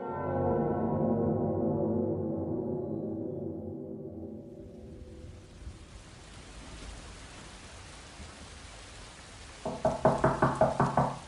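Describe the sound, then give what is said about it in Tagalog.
A quick run of about six or seven firm knocks on a door around five in the morning comes near the end, rising over a steady rain-like hiss that follows a fading low musical drone. “Hanggang sa may kumatok mga bandang alas 5 ng umaga.”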